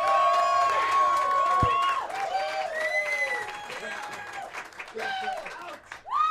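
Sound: audience clapping and cheering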